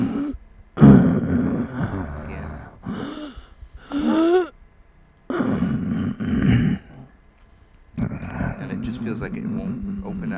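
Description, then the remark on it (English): A patient sniffs hard again and again on request while their breathing is listened to, five or so loud, breathy bursts separated by short pauses, some carrying a rough, throaty, grunting edge. “And can you sniff?”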